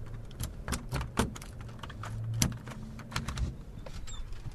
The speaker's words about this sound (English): Let's go inside. Let's get out of the cold. We'll unlock the door.